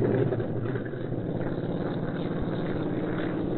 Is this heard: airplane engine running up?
yes